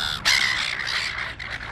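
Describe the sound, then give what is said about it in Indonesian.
Noisy silver gulls at a beach in Australia call loudly, their harsh, overlapping squawks running together in a steady clamour with no voices present. “Burung camar yang berisik itu dikenal suka mengganggu pengunjung di pantai Australia.”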